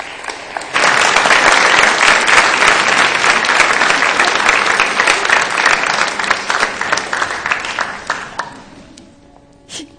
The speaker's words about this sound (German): Es sind nämlich unsere Kindergottesdienstkinder, unsere Kigo-Kinder, die in dieser Woche zum ersten Mal eine Schule betreten. Und ich bitte euch, 3 oder 4, bitte mal nach vorne zu kommen. Und ich denke, das ist einen Applaus wert.